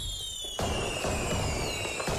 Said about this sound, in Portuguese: Nesta altura do ano, com este calor, é a melhor maneira de ouvir fogo de artifício.